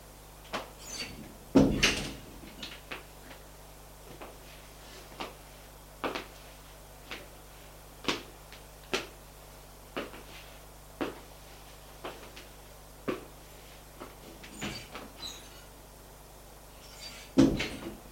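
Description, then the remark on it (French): A woman locks a door with a key by hand: a steady series of sharp metallic clicks and rattles, with a heavier thunk of the door near the start and again at the end. “Sa main la porte à clé.”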